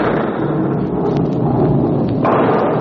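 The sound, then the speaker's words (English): A heavy, continuous rumble of thunder rolls on for a few seconds, deep and steady with a slight swell near the end, and no voices. “Hear it? Do you think that's thunder?”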